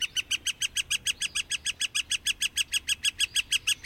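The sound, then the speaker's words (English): A northern flicker, a ground-gleaning woodpecker, at a ball field: a rapid, steady series of loud, evenly spaced 'wick-wick-wick' notes repeating without pause, clear with no voices. “Other species you might see at a ball field, northern flickers.”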